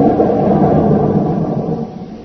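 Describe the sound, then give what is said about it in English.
A loud, deep explosion roar rumbles steadily for a couple of seconds, heavy in the low end, slowly easing off without fully dying away. No voices are heard. “That was it, Jim. Flew it to high heaven.”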